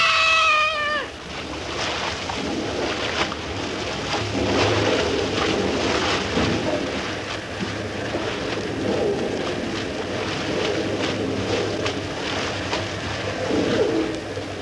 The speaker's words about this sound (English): The roar of the falls is getting too loud. We won't be able to talk much more.